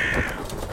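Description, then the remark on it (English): A bird lets out a single harsh, loud, cawing call over a low rumbling background with no talking. “Birds.”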